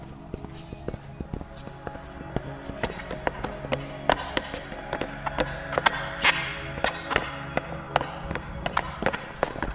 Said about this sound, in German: Da! Hört ihr das? Schritte kommen aus der Wand. Ja, da muss ein Geheimgang sein. Du hast recht. Die Wand ist hohl.